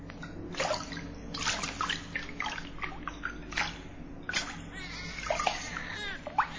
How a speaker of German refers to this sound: Mit einigen Hofdamen begab sie sich in das Wasser des Flusses, um zu baden.